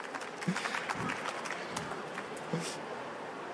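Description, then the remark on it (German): A crowd applauds a correct answer in a tasting quiz, the food being natto, fermented soybeans: a dense, crackling wash of many hands for a few seconds with scattered sharper claps standing out. No one speaks over it. “Ein Applaus bitte!”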